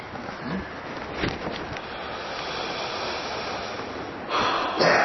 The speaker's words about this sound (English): get a sense of how much air comes out, you can duplicate that internally just by putting a little hole in your lips here and breathing through this little hole. You can replace the straw.